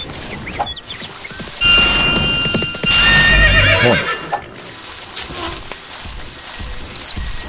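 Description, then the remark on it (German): A horse whinnies loudly with a shrill, wavering neigh amid steady clip-clopping hooves, while faint bird chirps flicker in the background. “Jetzt rast die Katze mit dem Pferd durch die Gegend und kriegt sie nicht klein.”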